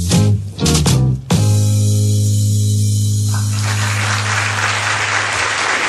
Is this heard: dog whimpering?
no